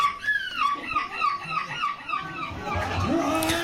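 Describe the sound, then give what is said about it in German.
A person, the newly crowned European gull-screaming champion, imitates a hungry gull with a string of high, nasal, wavering squeals, repeated in quick rhythmic bursts, rising and falling in pitch, with a rougher, louder cry near the end. “Die hungrige Möwe zum Beispiel, die klingt bei ihm so.”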